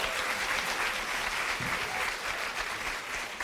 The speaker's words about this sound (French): j'aimerais vous remercier, vous, et vous pouvez vous applaudir, d'être venus.